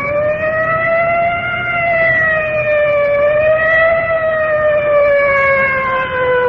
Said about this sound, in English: Way off in the distance now, I can hear the wail of the siren of our fire department inhalator squad rolling. Rolling in now. I'm not sure whether this is the inhalator or the ambulance. Difficult to tell from here.